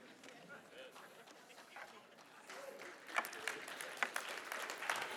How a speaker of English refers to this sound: If you're clapping, you're not writing that down. I know that. I got to come up with something else.